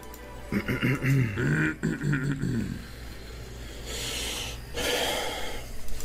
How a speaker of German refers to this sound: Und auch dieses genervte, oh, er macht es schon wieder, auch dieses genervte Schnaufen so. Man hört schon, dass er richtig, dass er Bock hat.